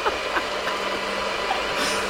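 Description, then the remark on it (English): A Nutribullet blender runs with a steady, unbroken motor whir, a dense buzzing rush over a low hum that holds the same loudness throughout, with no voices. “That's a Nutribullet.”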